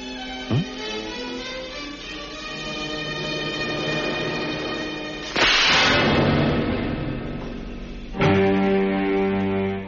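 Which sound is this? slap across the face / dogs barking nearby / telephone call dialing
slap across the face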